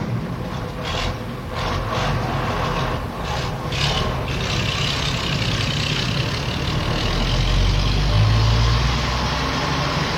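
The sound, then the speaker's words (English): A truck engine rumbles steadily, a loud low drone with rattling and scraping texture, swelling slightly toward the end as if revving or pulling away. No one speaks. “Now get into that truck out front.”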